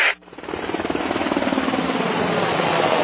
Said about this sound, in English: The Navy Seahawk helicopter has a lift capacity of over 6,000 pounds.